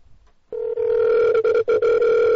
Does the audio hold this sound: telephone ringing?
yes